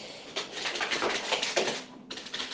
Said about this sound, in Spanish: Es mi perro detrás de mi gato. Son esos ruidos. Lo siento.